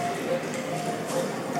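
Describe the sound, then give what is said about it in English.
A crowd of children click their tongues to imitate clip-clopping hooves, many overlapping clicks forming a busy, steady clatter that fills the room at moderate loudness. “Click, clock, click, clock, click, clock.”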